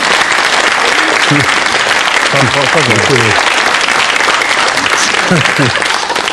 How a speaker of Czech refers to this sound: Bol potlesk vynútený. Toto sa nedá ináč kvalifikovať. To neplatí. Takýto potlesk je to isté, ako keď tlieskali tým poslancom na začiatku, čo som tu zinscenoval.